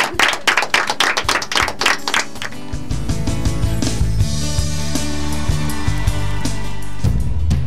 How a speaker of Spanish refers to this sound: que tengan buena semana, chau chau, nos vemos, con un aplauso.